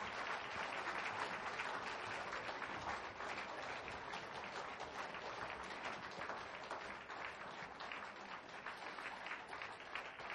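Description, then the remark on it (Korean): A large crowd applauds steadily for about ten seconds, a dense wash of many hands clapping at once that holds an even level throughout, with no voices over it, applauding the 23rd parish team of young people in their twenties after their hymn performance at a church praise event. “다시 한번 23교구에게 큰 박수 부탁드리겠습니다.”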